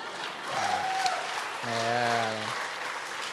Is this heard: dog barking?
no